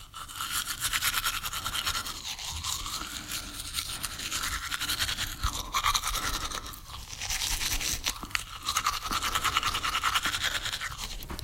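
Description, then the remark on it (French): A toothbrush scrubbing against teeth, a steady wet, bristly back-and-forth rasp that continues throughout with a few brief pauses, no one speaking. “Ah non, utilise la brosse à dents de ta mère.”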